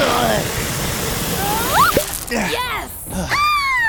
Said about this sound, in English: Maybe the force of the spray will push Bubbles' foot out of the root.